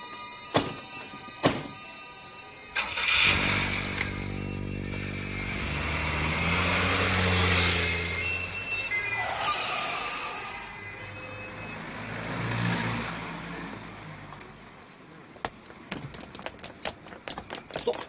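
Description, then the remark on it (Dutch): Two car doors thump shut, then a car engine cranks to life, revs up and the car pulls away, its drone fading before a few sharp clicks at the end. “Dan snel in de auto. En wegwezen met de schat.”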